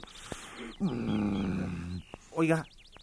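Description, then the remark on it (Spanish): A bird sings in quick, high, sweeping chirps at the start and again at the end, with a louder, low, rough voice-like sound filling the middle. “Oiga, está cantando un pájaro.”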